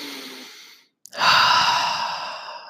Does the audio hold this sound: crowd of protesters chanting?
no